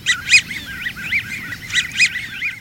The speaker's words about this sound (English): These rubber ducky sounds come from a flock of American widgeons, trim brown ducks with pale blue bills and big white wing patches.